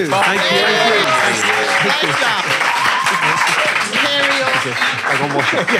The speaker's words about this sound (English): Yeah. Round of applause, Martin and Tony.